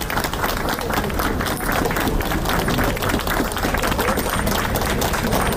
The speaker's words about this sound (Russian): Около полудня к посольству пришла вдова Алексея Навального Юлия. Ее встретили аплодисментами.